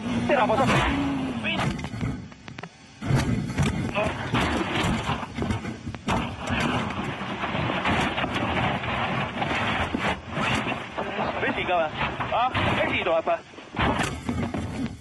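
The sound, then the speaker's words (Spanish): Ott Tänak's rally car crashes at about 170 km/h in a very fast section, recorded by its onboard camera: a loud, continuous engine roar with rising and falling whine, broken by harsh crunching impacts and brief sudden drops in sound as the car rolls over repeatedly. “Y sobre todo un accidente que por suerte ha acabado en nada, que es este que vais a escuchar ahora mismo desde su cámara a bordo de Ott Tänak, campeón del mundo el año pasado.”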